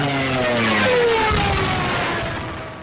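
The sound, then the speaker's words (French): A loud, droning aircraft engine first heard from far off, with a steady harmonic hum, swelling as it rapidly grows louder before easing off toward the end. No voices. “C'est à ce moment qu'on entendit au loin un vrombissement qui s'amplifia rapidement, puis les sinistres sirènes des Stuka.”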